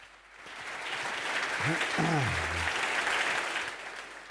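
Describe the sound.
A crowd applauds steadily for several seconds, a dense, even clatter of many hands, with a brief voice rising through the clapping near the middle.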